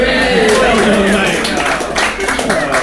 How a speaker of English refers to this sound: Shall we give him a big cheer for two of these?